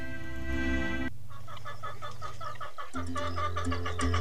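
A hen clucks in quick, busy bursts over a steady musical backing, introducing the Catalan children's counting rhyme 'La gallina ponicana', starting after a brief sustained tone. The clucking is fairly loud, continuing almost without pause.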